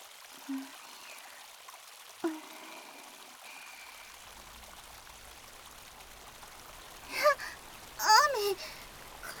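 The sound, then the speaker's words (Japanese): A steady, soft hiss of rain sets in partway through and continues to the end, with a couple of brief, high vocal exclamations near the close and a few faint clicks earlier. “そうだ、あっちに洞窟っぽいとこあったよね。雨宿りしよう。”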